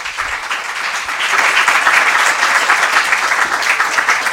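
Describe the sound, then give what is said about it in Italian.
An audience at an evening event in Foggia, organized by the Movimento Evangelico Famiglie Italiane, breaks into steady applause for Magdi Cristiano Allam, a dense wash of clapping hands that swells after the first second and stays loud and even throughout. “Vogliamo fargli un applauso per favore.”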